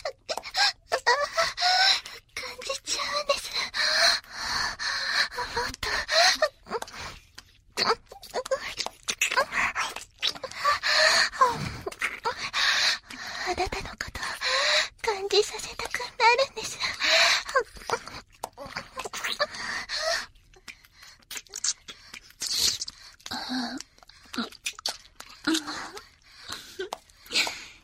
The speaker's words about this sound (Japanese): お耳にあなたの息がかかるの気持ちいい。温かくてエッチな声と吐息。